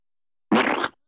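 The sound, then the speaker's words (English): A short, wet squelching squirt, like glue being squeezed out of a bottle, lasting about half a second. It is fairly loud, with nothing else around it. “Glue.”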